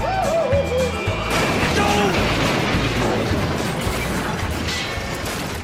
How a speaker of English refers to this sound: Total train wreck, the Biden train wreck express crashing upon arrival in Bidenville